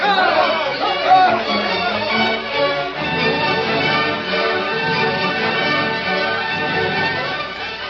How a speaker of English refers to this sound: Angry crowd marched to courthouse.